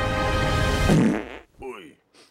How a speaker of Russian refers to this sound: Фу-фу, кажется, по ошибке ты схватил средство, чтобы пукать долго и счастливо.